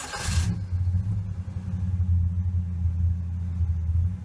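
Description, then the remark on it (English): A car engine catches with a short, sharp burst of noise, then settles into a steady, deep idle, a low even rumble that holds for several seconds with no voices. “Listen to that engine purr.”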